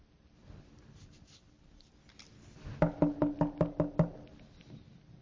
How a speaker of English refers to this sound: And all I hear is a knock.